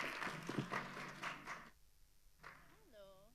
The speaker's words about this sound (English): Woo! A round of applause.